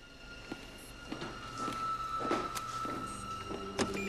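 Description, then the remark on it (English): Heavy metal security doors opening as a man pushes a button on the wall and walks through to the main floor of CTU: a series of dull mechanical thunks and clanks at uneven intervals over a steady electrical hum, with a brief whirring slide in the middle. “He pushes a button on the wall and walks through heavy metal security doors that lead to the main floor of a familiar workplace.”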